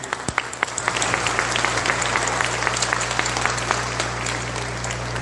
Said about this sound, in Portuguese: Agora eu vou pedir os pais de vocês, a família de vocês, que levante. Fazendo um favor. Aplaudem eles. Vocês estão aqui por causa dele. Vocês, alunos, eu quero que vocês aplaudam seus pais.